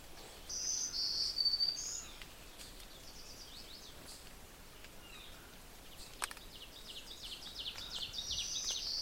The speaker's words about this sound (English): You can certainly hear other birds around me. Most of the peculiar notes are the veeries.